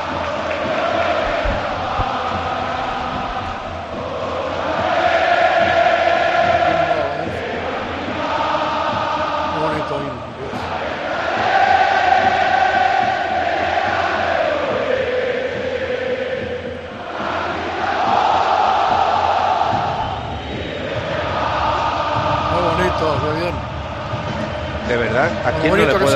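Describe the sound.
A huge stadium crowd sings the regional community anthem in unison, loud sustained melodic phrases swelling and dipping in waves, with a rough roar of many voices underneath throughout.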